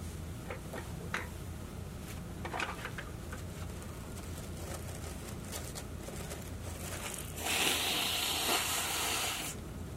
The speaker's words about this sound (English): Well, shit. Oh, I gotta blow my nose.